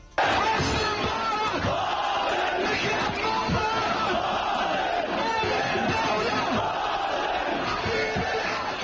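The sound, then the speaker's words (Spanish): A huge crowd in Tahrir Square roars in jubilation during the 2011 Arab revolution protests after the president's resignation, a dense, continuous wall of cheering, shouting and chanting voices that stays loud and steady throughout, with no single voice standing out. “Las icónicas protestas de la Plaza Tahrir consiguieron que dimitiera y el mundo fue testigo de la explosión de júbilo que se vivió en esa conocida plaza.”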